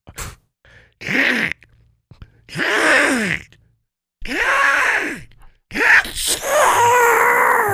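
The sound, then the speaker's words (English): A voice does a squawky Donald Duck sneeze imitation, after imaginary pepper is sprinkled in the face, in four loud, strained bursts separated by short pauses, each rising and falling in a nasal, quacking tone. “When you do that, I will give you the Donald Duck sneeze.”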